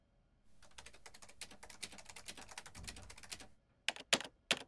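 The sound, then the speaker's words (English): Rapid, hard keystrokes clatter on a computer keyboard for several seconds, then a short pause before three or four loud, emphatic key strikes. Fairly loud, with no voices. “Creator, please don't damage your keyboard.”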